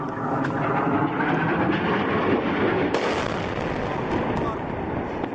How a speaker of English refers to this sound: That's a barrel bomb attack captured in an activist video. The regime denies using barrel bombs, but they're the only ones with the helicopters to drop them.